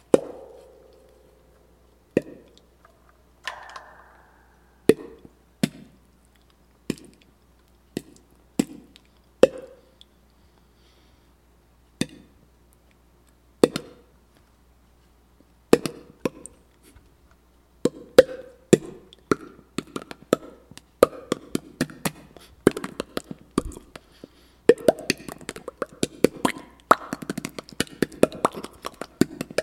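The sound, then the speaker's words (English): A person imitates popcorn popping in a microwave with mouth clicks: sparse, sharp pops at first, then faster and denser bursts building into a rapid crackling flurry, fairly loud with no talking. “The reason I'm talking about Easy Pop popcorn right now is one of the sound effects that I can do with my mouth is popping popcorn in a microwave.”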